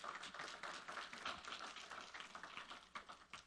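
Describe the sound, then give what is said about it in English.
People clapping steadily for visitors at a morning gathering, a dense, sustained patter of many hands applauding together with no talking, holding even for a few seconds. “And let's give our visitors a round of applause this morning.”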